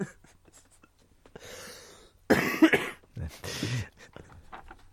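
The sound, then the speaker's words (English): A sharp cough bursts out loudly, followed by a second rougher cough, with soft breathy rustling just before and no talking over it. “God, I'm just about to cough.”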